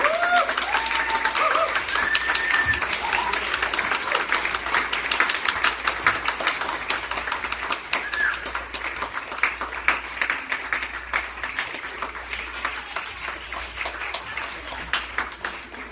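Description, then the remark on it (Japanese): Sustained applause from an audience asked to stand and welcome a man, a dense steady patter of many hands clapping that holds at an even, fairly loud level throughout, with a few faint cheers or voices mixed in early on. “Thank you for that wonderful applause.”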